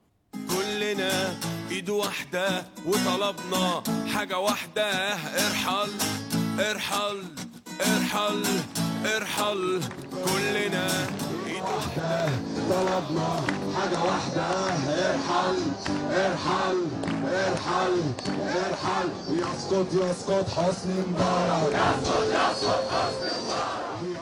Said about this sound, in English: The crowd salute back. Irhal, irhal. And that chant, in fact, has become a song.